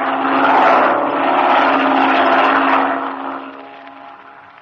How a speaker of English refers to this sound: It's a plane, Chuck. There it is. A black one. Flying directly this way.